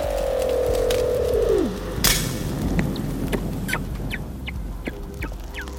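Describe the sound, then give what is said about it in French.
Weddell seals whistling underwater: a long, loud tone glides steadily downward, followed by scattered short chirps, clicks and faint high trills over a low rumbling background. “Et par-dessus ces sifflements, ce sont des bruits de phoques de Weddell qui sifflent quelques hormones et la période de reproduction.”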